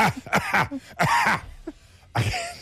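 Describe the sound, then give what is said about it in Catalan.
A voice mimics an audience member at a theatre performance coughing in the middle of an actor's sentence: a loud, harsh cough in a quick burst of three or four hacking barks, then a short pause and one more forceful cough at the end. “El problema és quan al mig d'una frase hi ha algú que li ve la tos i fa”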